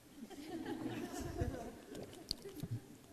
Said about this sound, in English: let me have a sip of this other, so I don't have to hold it.